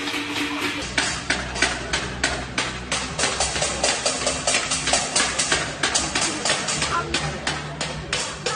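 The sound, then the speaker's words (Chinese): Residents in Shanghai bang metal pots and pans in protest, a loud, dense clatter with sharp strikes coming several times a second in a ragged, uneven rhythm that carries on throughout. “把敲盆敲锅的这个事儿啊，跟境外势力搭上线了”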